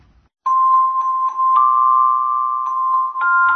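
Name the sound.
school bell ringing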